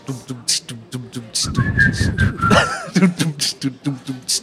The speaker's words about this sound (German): Wir haben ja immer so einen Track unten drunter. Wir können dran pfeifen. Ich mache den Beat und ihr pfeift.